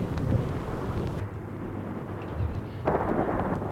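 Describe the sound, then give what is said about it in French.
Deep, rolling thunder rumbles steadily with no one speaking, easing briefly in the middle before a louder crack-like surge swells up again near the end. “Les éclairs, le tonnerre continue.”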